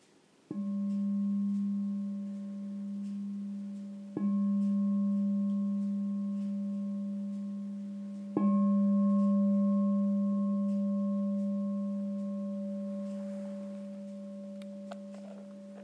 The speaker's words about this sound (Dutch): En als je dan zo rustig zit met gesloten ogen, dan beginnen we zo meteen de meditatie met de bel en die eindigen we straks ook weer.